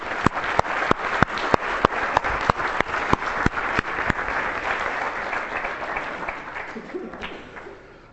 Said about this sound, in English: And we could close that by giving them a round of applause.